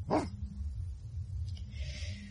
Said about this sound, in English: Where's that dog gone to now? It sounds if he's down in the woods.